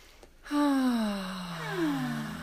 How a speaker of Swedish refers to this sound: Som är att andas, djupa andetag. Och att då ha fokus på utandningen, att andas ut en lång utandning. Och gärna genom munnen. Så det kan vara så här till exempel.